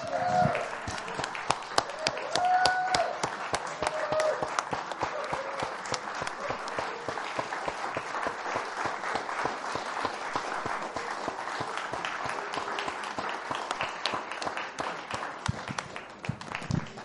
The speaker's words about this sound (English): Why don't we give them a round of applause?